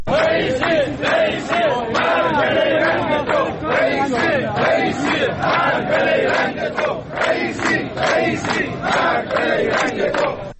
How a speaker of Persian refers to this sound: بازنشستگان تأمین اجتماعی برای سومین روز پیاپی در شهرهای مختلف ایران از جمله تهران، کرج، اهواز، کرمانشاه، عراق، یزد، شوش و هفت تپه تجمع اعتراضی برگزار کردند و شعارهایی علیه ابراهیم رئیسی رئیس جمهور ایران هم سر داده شد.